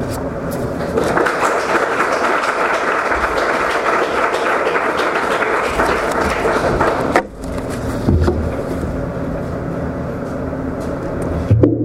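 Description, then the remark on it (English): Sustained audience applause for His Holiness after his lecture: dense, steady clapping that stays loud for about twelve seconds, with a brief dip partway through before it picks back up. “We'd like to give another hand of applause to his holiness, please.”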